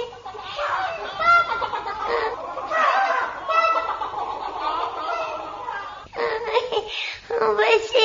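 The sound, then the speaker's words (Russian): A chicken clucks busily and almost nonstop, fairly loud. Its throaty clucks run together in an uneven stream, with a brief pause near the end. “Цып-цып-цып-цып-цып-цып-цып.”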